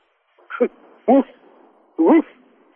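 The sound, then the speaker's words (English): A person imitates a small dog with three short, yappy vocal barks spaced irregularly, fairly loud, with faint room noise between them. “No, bark like a dog.”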